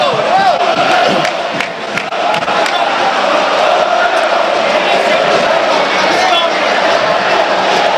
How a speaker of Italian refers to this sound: 3-2, e il Parma se la sta conquistando con le proprie mani questa salvezza. E sentite lo spicchio di tifosi gialloblu, solo Parma calcio al Gavi Stadium.